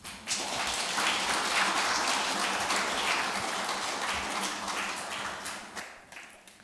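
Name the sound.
applause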